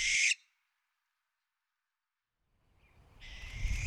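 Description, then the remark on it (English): A barn owl's harsh hissing scream, a raspy, breathy screech that cuts off quickly, then returns after a long silence over a low rumble and keeps going. “One call is a loud hiss scream that Steve compares to a steam engine.”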